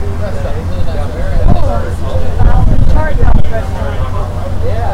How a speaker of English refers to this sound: You can even hear the engine running again, running pretty fast.